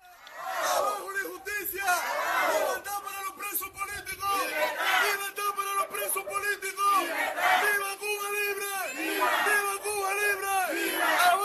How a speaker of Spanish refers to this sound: No hace mucho era impensable que gritos como estos se escucharan tan alto y durante tanto tiempo en una manifestación por alguna calle de Cuba.